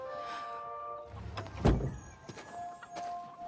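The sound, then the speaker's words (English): A door shuts once with a solid, muffled thud partway through, closed from outside by Max, set against a faint steady hum and quiet background noise; nobody speaks. “Outside, Max closes a door behind him.”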